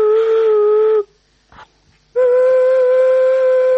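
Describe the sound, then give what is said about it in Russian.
Two long, steady, hooting tones from an ancient golosnik vessel flute with water-filled tuning chambers, tuned to the cardinal directions, breathy and whistle-like at a mid pitch, separated by a brief pause with a soft puff of air. The second tone sits slightly lower. “это голосники. Вот вы видите, здесь вот сделаны входы. И вот видите выходы, это флейты.”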